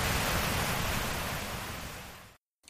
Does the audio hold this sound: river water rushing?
yes